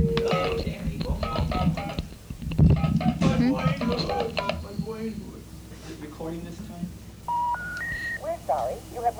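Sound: telephone keypad dialing tones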